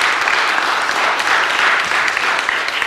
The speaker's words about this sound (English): Sunday school teachers, I want you to encourage you. they're sitting here. Can we give a clap offering to the Lord for Sunday school teachers? Seriously.